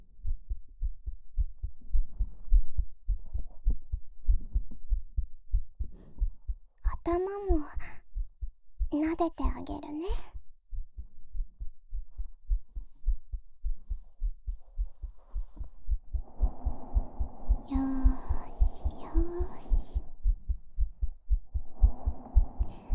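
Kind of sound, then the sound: human body sound, heartbeat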